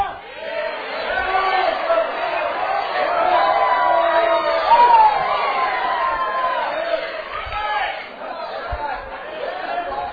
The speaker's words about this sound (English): All this shouting going on and all this praising going on.